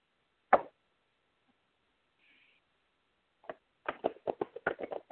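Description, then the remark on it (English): A deck of cards being shuffled for a card reading: one sharp papery snap, a pause, then a quick run of soft, irregular slaps and flicks as the cards are worked through, moderately loud with no talking. “I'll shuffle the cards real quick.”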